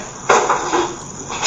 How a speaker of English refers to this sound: do you mind closing the door behind you? The door? Is that okay? Just think we get a little bit more peace and quiet.